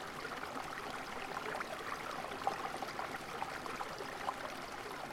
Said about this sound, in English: Close by, rushing, shushing, rattling shallow stones, water wraps gurgling arms around two great rocks. Downstream, mini rapids muttering, uttering, stammering, becoming small falls of water, dissolve, murmuring into pools.